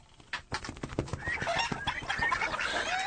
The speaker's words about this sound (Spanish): Mira, ahí viene llegando ya la gaviota.